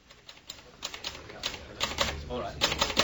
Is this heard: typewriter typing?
yes